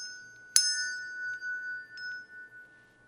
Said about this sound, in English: I don't know if you have surround sound. I don't know if you got stereo sound in your car right now, but that's me moving the bell around the microphone.